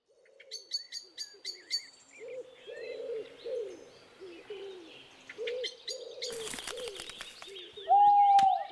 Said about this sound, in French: Avez-vous entendu le hibou et les branches qui craquent ? Oui, c'est la forêt.